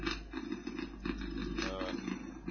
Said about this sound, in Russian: Я не знаю, есть сайт, генератор урчания. Слушай.